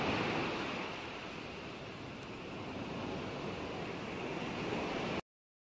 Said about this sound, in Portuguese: Escute o barulho das ondas e o impacto que elas causam no seu corpo.